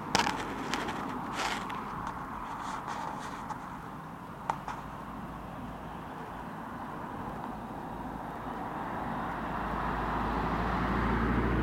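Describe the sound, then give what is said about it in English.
Steady roar of busy road traffic with lorries going up and down, a deep lorry rumble underneath, a heavy vehicle seeming to build and grow louder toward the end; no one speaks. “Just a shame about the busy road, it's just nice spots otherwise. And lorries plunging up and down.”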